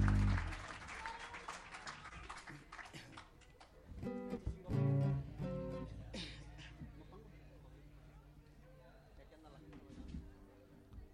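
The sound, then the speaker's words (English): An audience claps and cheers for the dancers in a sustained burst, with a louder swell of shouts and whoops midway before the applause gradually thins out toward the end. “Let's have a big round of applause for all the dancers, man.”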